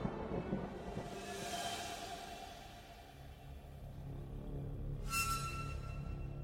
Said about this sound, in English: With a deep clap of thunder, Bavmorda disappeared.